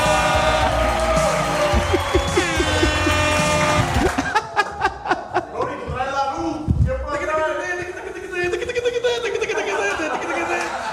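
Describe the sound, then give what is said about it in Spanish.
An audience at a stand-up comedy show cheers and whoops loudly for a comedian, followed by a burst of sharp claps, while voices shout and carry on over the noise for the rest of the moment. “Fuerte aplauso para”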